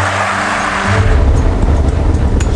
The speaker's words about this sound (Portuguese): E esse é o tipo de carro que as pessoas precisam usar para ir ao trabalho.